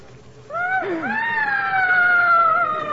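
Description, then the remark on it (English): A loud, sustained high-pitched scream from upstairs begins abruptly and wavers as it stretches on, steady, with a faint low rumble underneath and no talking. “It's those screams.”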